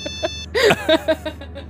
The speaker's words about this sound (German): Lars Handy klingelt. Oh yeah. Moment, wo war Lars Handy? In seinem Schuh.